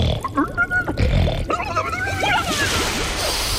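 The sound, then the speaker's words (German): A human voice imitates the grunting of a North Atlantic sea fish that makes grunts with its swim bladder: a run of loud, throaty grunts and croaks, rough and pig-like, with rising and falling squeaky tones, lasting a few seconds. “Dieser Meeresfisch, der hat tatsächlich so eine Schwimmblase, die so Grunzlaute erzeugen können.”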